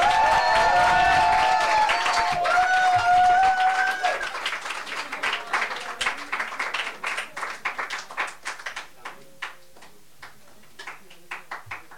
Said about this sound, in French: C'est la première fois? C'est la première fois, on l'applaudit?